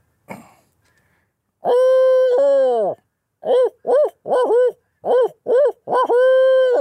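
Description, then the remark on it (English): A person imitates a barred owl, giving loud hooting calls: two long drawn-out hoots followed by a rhythmic series of five shorter hoots and a final sustained one. “So, do you ever use a barred owl call for anything other than hunting?”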